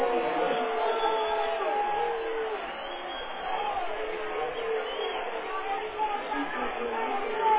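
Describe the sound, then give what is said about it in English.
A large stadium crowd reacts unhappily to an illegal procedure penalty, a dense, steady roar of many voices with scattered shouts rising out of the din, holding at an even loudness throughout. “The crowd not happy with it, of course.”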